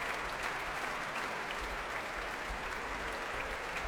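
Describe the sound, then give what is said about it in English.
Sustained applause from a large concert hall audience at the Royal Albert Hall in South Kensington, a dense, steady clatter of many hands clapping at an even level throughout, with no voices rising above it. “And now, as the applause continues here in South Kensington at the Royal Albert Hall, I'll hand you on to Ian Skelly in Broadcasting House.”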